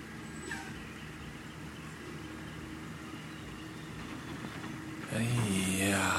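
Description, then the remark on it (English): Garbage trucks rumble past, a steady low engine drone that swells near the end into a louder roar with a high, whining brake squeal. “Goddamn garbage trucks coming through now.”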